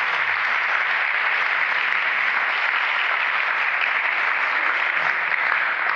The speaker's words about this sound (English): Let's give all the candidates a great applause. They did a great job.